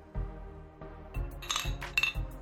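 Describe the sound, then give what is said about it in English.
Glass clinking as Crown whiskey is poured for another drink: a few soft, low knocks, then a cluster of bright, ringing chinks of glass against glass. Quiet overall, with no talking. “Matter of fact, pour me another drink of this goddamn Crown.”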